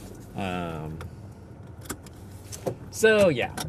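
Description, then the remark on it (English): A car being started: a short whining crank, a pause with scattered clicks and key jangles, then a second rising whine as the engine catches. “Make the car started here again.”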